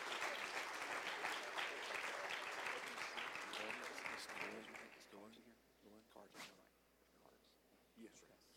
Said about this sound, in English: Do you love them? Give them a hand clap this morning.